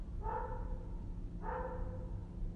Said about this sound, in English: The dog is barking again. Dog didn't used to bark this much. Maybe it's new. Or maybe it's colder, I don't know.